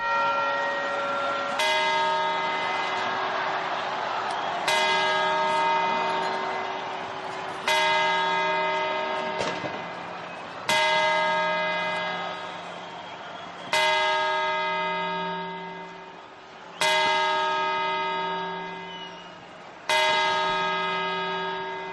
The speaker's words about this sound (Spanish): Primero han sido los cuartos y ahora las campanadas. Hay que ir ensayando.